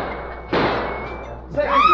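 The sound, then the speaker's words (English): One sharp gunshot, by which somebody is shot, bursts out of a low hiss and fades over a brief tail, followed a moment later by a rising, excited-sounding voice. “Did you hear that? Somebody got shot.”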